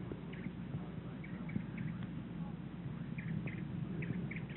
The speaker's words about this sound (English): They must be picking up some warblers, perhaps. But you know, it's not. It's chirping away. It's not a good day at all for seeing birds. Foggy like this, they're not stirring. They don't stir on a foggy day.